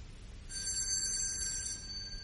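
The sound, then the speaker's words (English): A doorbell rings once, a bright, sustained high-pitched electric chime that holds steady for about a second and a half over a low background rumble, with no voices. “Can you hear your doorbell ringing?”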